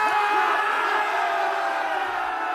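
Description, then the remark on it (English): A loud, sustained triumphant yell rings out without a break for a couple of seconds, strained, with no words spoken. “And I screamed in victory.”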